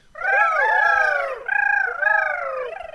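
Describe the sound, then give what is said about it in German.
A busy chorus of small birds peeping and chirping, with many overlapping high, wavering calls that run steadily for a few seconds, loud and without any voices. “Und wie sie picken und piepsen.”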